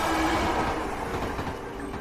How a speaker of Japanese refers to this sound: これは何の音かな？さあ、みんなで考えよう。わかったかな？正解は電車の走る音でした。